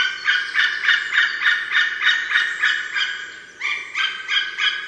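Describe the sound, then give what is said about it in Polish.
An excited white-tailed eagle female at the nest gives a long series of loud, harsh cackling alarm calls in rapid rhythmic succession, with a brief pause before the calls resume, clear with no talking. “Podekscytowana samica przy gnieździe alarmuje serią kilkunastu, a nawet kilkudziesięciu gdaczących okrzyków.”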